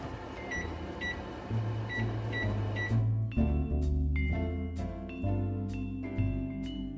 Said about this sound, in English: So I'm going to set my timer.